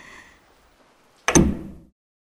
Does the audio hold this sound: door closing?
yes